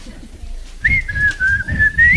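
Someone whistles a short tune, one sustained clear tone gliding gently up and down in pitch for a couple of seconds, over a low background rumble.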